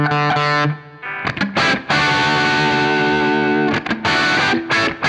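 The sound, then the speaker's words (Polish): Electric guitar played through an amp's normal channel set to 6 of 10, with a little high treble mixed in for added brightness, giving a bright, slightly gritty tone: a sustained chord, then a few sharp strums ringing out loud, with crisp treble sparkle. “I dodajemy jasności.”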